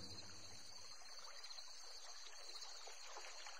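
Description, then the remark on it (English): A river flows steadily, its soft continuous babble and trickle filling the background without pause. No voices are heard, just the gentle, even rush of moving water. “Cloud awoke to find himself next to a river.”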